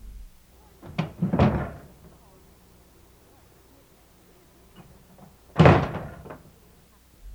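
A man carefully closes a door fairly softly with a muffled thud, then after a pause slams it hard with a loud, sharp bang that rattles briefly. No talking.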